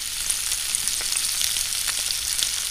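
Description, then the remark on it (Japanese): Sardines, seasoned with salt and pepper and dusted with flour, frying in heated olive oil in a frying pan until crisp on both sides: a steady, bright sizzling hiss with scattered small crackles and pops throughout, fairly even in loudness, with no voices. “両面カリッと焼き上げてください。”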